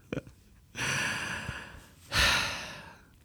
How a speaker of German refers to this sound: Um schnaufen wie ein alter Grossvater. Der Grossvater.